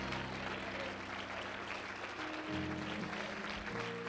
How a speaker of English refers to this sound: Let's give the Lord a hand clap of praise for the man of God and his family.